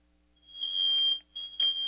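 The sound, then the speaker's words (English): A smoke alarm that someone is testing sounds its loud, piercing high-pitched tone, holding steady for about a second, cutting out briefly, then starting again. No one speaks over it. “Someone must be testing my smoke alarm.”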